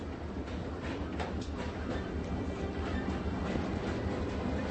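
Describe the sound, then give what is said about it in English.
A train rolls steadily along the rails, a continuous rumble with faint rhythmic clatter and no voices, holding an even loudness throughout. “There's a bomb on this train.”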